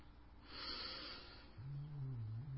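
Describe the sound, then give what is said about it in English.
A female pet snores softly while napping: a breathy, rasping inhale followed by a low, rumbling buzz. The sound is quiet, with no talking. “Can you all hear her snoring?”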